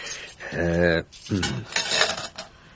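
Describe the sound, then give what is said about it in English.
Keys rattle and clink against a metal cooking pan inside a van, a busy jangle of bright metallic knocks lasting a few seconds, with a ringing tone from the pan between the clatters. “You're not planning to cook your keys, are you?”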